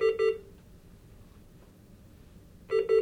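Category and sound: medical sound, hospital monitor alarm beeping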